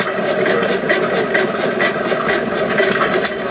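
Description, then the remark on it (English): An antique New Holland Type C petrol stationary engine, made in America to a design first introduced in 1903, runs loud and steady. It fires every so often, and its flywheel carries it round to the next firing, giving a rapid chugging, clattering rhythm over a broad mechanical rumble. No one speaks. “Fascinating, the way they just fire every so often. And the flywheel keeps it going round to the next firing.”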